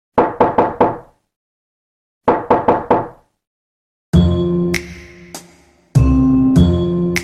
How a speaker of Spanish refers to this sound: Decide cerrar los ojos para concentrarse mejor y da unos golpecitos en su corazón, como tocando a una puerta imaginaria.